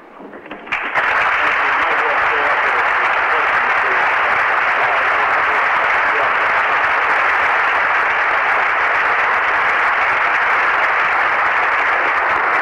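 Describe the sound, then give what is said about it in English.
A large audience at the State and Anchorage Chamber of Commerce in Alaska breaks into sustained applause after a speech by the Exxon USA president, dense and steady clapping that swells within the first second and holds at full strength for over ten seconds, with no voices. “Friendly reception from the crowd here at the State and Anchorage Chamber of Commerce for a speech by Exxon USA President Bill Stevens”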